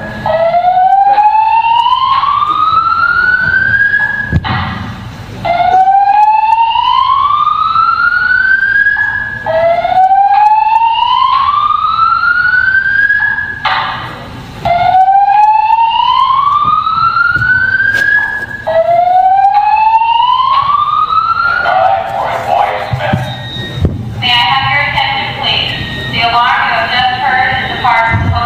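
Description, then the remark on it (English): A building fire alarm in a hotel sounds loudly in a repeating slow whoop, each tone sweeping upward and restarting about every five seconds, five cycles in all, before a voice takes over near the end. “The reason for the alarm is now being investigated.”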